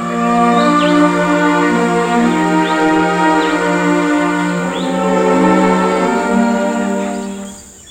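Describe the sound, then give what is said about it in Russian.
Slow, sustained classical music, Tchaikovsky's Andante cantabile, likely strings holding long, steady notes, plays throughout, combined with nature sounds: soft bird chirps and tweets surface now and then in the background. No one speaks. “Звучит «Анданте кантабиле» Чайковского в сочетании со звуками природы.”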